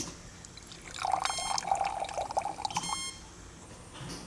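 Water pours steadily into a glass for about two seconds at a hospital in Barcelona, Spain, a bubbling trickle with a faint ringing tone, framed by quiet background noise and no voices.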